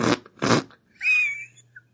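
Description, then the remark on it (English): Two short, loud, raspy fart noises, a video game sound effect, in quick succession, followed by a thinner, higher squeaky tone that trails off over a low steady hum; no one speaks. “And I laugh at farts.”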